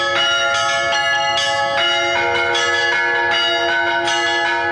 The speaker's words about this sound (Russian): Третий вид – это звон во все колокола. Трезвон его еще называют, самый вид распространенный. Он тоже описывается в богослужебном уставе, и он используется в самые торжественные моменты церковной жизни.